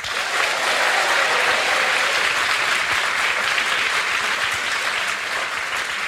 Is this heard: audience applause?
yes